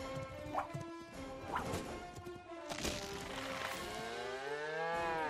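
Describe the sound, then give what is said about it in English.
In a TaxSlayer advertisement, a cow lets out a long, loud moo near the end, following a few sharp thuds and crashing noises. Nobody speaks. “Look at that sweet moolah! That big old cash cow.”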